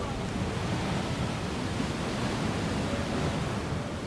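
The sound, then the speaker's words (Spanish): Sea waves of the Red Sea on the shore: a steady, broad wash of surf with no clear breaks between waves, a continuous roaring hiss that fills the whole clip at an even, moderate level. “El Mar Rojo.”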